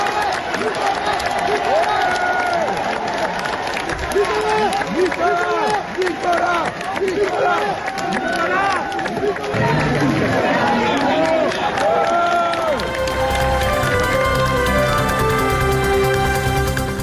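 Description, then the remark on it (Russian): A large crowd of supporters applauds and cheers as a man leaves for prison in a luxury car, with many voices shouting over dense, steady clapping; near the end the crowd noise gives way to music. “В тюрьму, куда его провожали красавица-жена, дети и внуки, он уехал в шикарном автомобиле под аплодисменты своих сторонников, которые сегодня же проводили в Париже митинги в его поддержку.”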